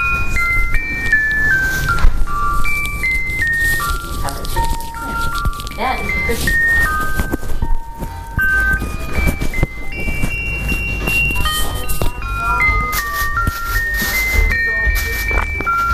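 A bird clock chimes an electronic bird call, a steady series of bright, stepping tones in a tinkly, melody-like pattern that runs continuously over a noisy, rustling background.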